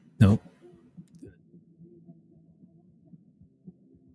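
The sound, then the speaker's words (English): A single sharp computer mouse click, made while clicking on a YouTube video, sounds near the start. It is followed by low, muffled murmuring with soft scattered taps in the background. “No, I'm clicking on YouTube thing again.”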